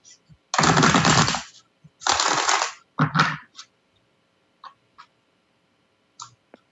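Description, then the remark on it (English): A deck of tarot cards being shuffled by hand before a tarot reading: two loud, crackling riffles, a shorter third burst, then a few soft taps and clicks as the cards settle. “When I shuffle, I just do it until I feel like the time is right.”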